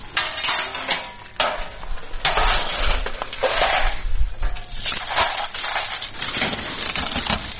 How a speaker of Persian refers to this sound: اینجا خانواده های آسیب دیده در رویداد روز گذشته شهر کابل مصرف جمع‌آوری شکسته های شیشه و وسایل خانه هایشان هستند که به اثر شدت انفجارها از بین رفتند.